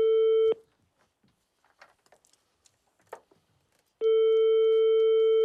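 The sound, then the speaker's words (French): A telephone ringback tone while dialing a second phone number: a loud, steady, buzzy single-pitched beep that cuts off, followed by several seconds of near-silence with faint rustles before the tone sounds again. “Alors, est-ce qu'on a un autre numéro?”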